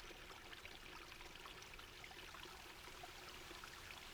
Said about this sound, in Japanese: さっき部屋から滝が見えたんだし、ここからも見えるかも。あ、すごい。あ、ちょっと音がするかも。ほら、こっち来て。ザーって水の音しない？